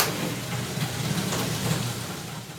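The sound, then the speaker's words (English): Steady, dense hiss of rain at a villa coming in through an open window, an even wash of noise with a low rumbling hum underneath, constant throughout and with no voices. “It is raining.”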